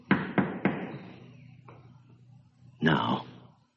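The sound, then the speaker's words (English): Three quick, loud knocks on a wooden crate in an even rhythm, each sharp and hollow, followed by a faint tap and then a brief muffled burst of sound from inside the crate over a low background hum. “Now, I'm going to knock on this crate.”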